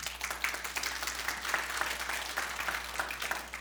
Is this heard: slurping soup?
no